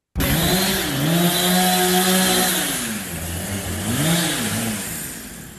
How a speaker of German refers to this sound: Wir stehen jetzt an der Baustelle vom Quartiersplatz und jetzt wird es wirklich laut.